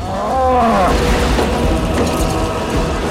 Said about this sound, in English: We got cows. Another cow. Actually, I think that was the same one.